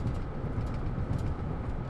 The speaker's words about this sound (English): Why is this truck rattling so fucking much?